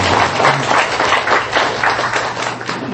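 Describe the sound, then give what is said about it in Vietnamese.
A crowd applauds steadily for a few seconds, many hands clapping in a dense, sustained wash of sound, with no talking over it. “Dạ vâng, giờ thì cho chúng … tràng pháo tay nha.”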